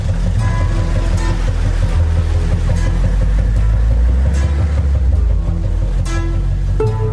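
A tractor engine runs loudly and continuously with a deep, rough rumble and uneven chugging as the tractor is driven toward a hillock at the end of a field, the engine seizing, rasping and giving off smoke, with no voices over it.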